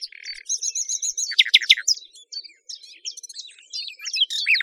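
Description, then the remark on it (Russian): A nightingale sings with no voices, pouring out varied phrases: rapid repeated piping notes, sharp descending whistles and quick trills, one after another for several seconds. “Им отвечает соловей.”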